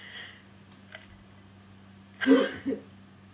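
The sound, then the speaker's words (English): A single sharp sneeze bursts out, followed by a brief smaller catch of breath; the rest is quiet background tone with a faint low hum. “Oh, next thing, none of it did, but we knew, so we said, bless you.”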